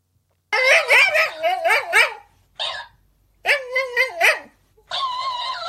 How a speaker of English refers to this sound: And so it will play the recording of the dog. The dog hears that and, of course, starts to sing along. That is why this dog is reacting the way it does.